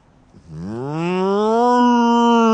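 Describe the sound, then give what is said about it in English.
A single drawn-out, cow-like moo from a person trying to summon cows and get them to moo back rises in pitch and then holds steady, loud, for about two seconds after a brief quiet start. “You moo, they moo, you moo, they moo. You moo.”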